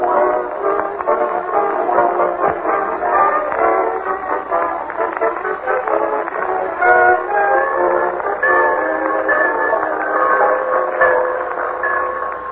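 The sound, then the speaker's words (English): A train pulls into the Summerfield Railroad Station, with a steady, fairly loud rumble and clatter of rail cars and sustained whistle-like tones sounding over it. No one speaks. “He and Marjorie and Leroy wait in the Summerfield Railroad Station for the arrival of that well-known authoress, lecturer, and second cousin, Octavia Gildersleeve.”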